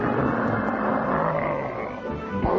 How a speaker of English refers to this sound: We are now marching right down the middle of the parade ground. Millions of people are cheering. And then from behind us, you can hear the sound of those planes coming back.